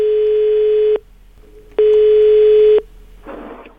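A telephone ringback tone sounds twice as a call is placed to a listener, loud, steady one-second beeps separated by a short pause, followed by a brief rustling noise as the line seems to pick up.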